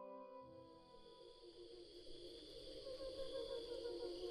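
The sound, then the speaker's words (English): Steady high-pitched cricket chirping at natural speed runs throughout, layered over the crickets' song slowed down many times, which sounds like low, sustained, almost choral tones swelling gradually louder. No one speaks. “In the foreground, we hear chirping crickets as they sound to our ears. In the background, we hear their song slowed down many times.”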